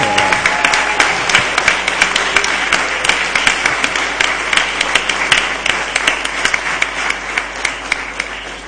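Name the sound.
audience applause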